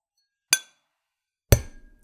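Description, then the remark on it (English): Two glass bottles clink together twice in a toast, about a second apart. The first tap is bright and ringing, and the second is heavier and duller with a short rattling tail. No one speaks. “And pop some bottles.”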